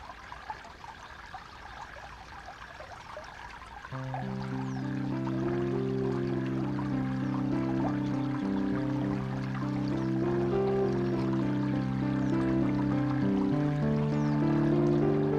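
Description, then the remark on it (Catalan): Water flows and trickles steadily at moderate volume at the Fonts de la Dou, the source of the Bastareny river, heard alone at first; after a few seconds, sustained tonal music rises over it and partly masks the flow. “Esteu sentint de fons aquestes aigües, unes aigües, un ciroll d'aigua.”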